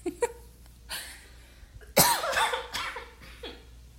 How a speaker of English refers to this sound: A cough that I would usually edit out, but people told me to leave my coughs in there, so I'm gonna leave them there.